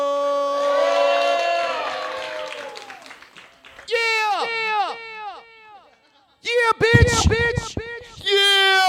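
A crowd cheers and whoops loudly, with repeated falling shouts rising in bursts, and a brief patch of clapping midway before the yelling returns.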